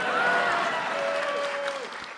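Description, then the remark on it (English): An audience breaks into steady applause at the conclusion of a talk, a dense, even wash of clapping that holds at full strength for a couple of seconds, with a thin tone gliding faintly through it. “So in conclusion, that's supposed to be an applause line.”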